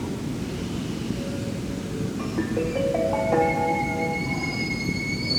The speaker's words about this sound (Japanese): まもなく2番線に電車が参ります。黄色い線の内側にお下がりください。